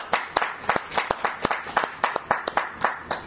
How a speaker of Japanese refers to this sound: 盛大な拍手でお祝いを。